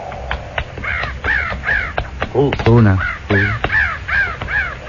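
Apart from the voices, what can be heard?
crows cawing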